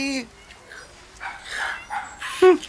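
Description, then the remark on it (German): A toy chihuahua squabbling with cats by the garbage bins barks in a string of short, shrill yaps, the sharpest and loudest bark coming right at the end, agitated. “Ein Zwerg-Chihuahua. Der Hund legt sich mit den Katzen an.”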